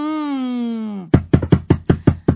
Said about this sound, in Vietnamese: Cô Tư ơi, ai gõ cửa kìa cô Tư?